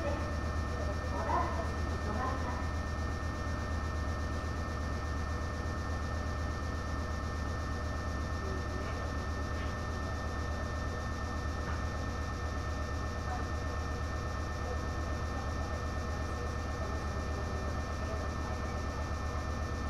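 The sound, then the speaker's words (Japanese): A stationary local train bound for Inari idles at a station platform with a steady, droning low hum and faint mechanical whine. The sound holds constant throughout, with a few faint clanks and murmurs. “この電車は普通稲荷行きです。”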